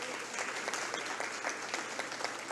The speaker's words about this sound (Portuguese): Deste modo, também, mais uma vez, uma salva de palmas.